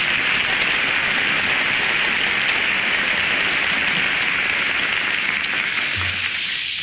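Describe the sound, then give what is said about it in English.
Steady, heavy rain falling outside hisses continuously, a dense wash of patter that stays even throughout, with no voices and no breaks. “Besides raining outside, the museum was the nearest place to go.”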